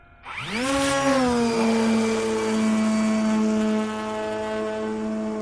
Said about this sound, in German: startet die Motoren mit einem Fingertipp. Senkrecht wie eine Rakete schießt die Drohne in die Luft.